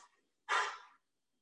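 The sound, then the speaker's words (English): A single sneeze: a faint breathy intake, then a sudden loud, hissing burst that fades within about half a second, followed by silence. “Bless you.”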